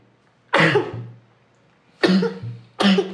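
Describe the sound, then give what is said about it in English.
Three harsh, explosive coughs, the first followed by a longer pause and the last two coming in quicker succession, with no talking. “Sorry about that. Shia cough.”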